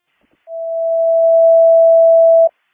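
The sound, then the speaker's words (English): A test dispatch alert tone for Algonquin Fire Station 1, 1020 West Algonquin Road, sent during a power outage in dispatch: one loud, steady electronic pitch that holds for about two seconds and then cuts off abruptly, with no voices. “I'm going to do a test ticket for Station 1 to make sure that the tones go off.”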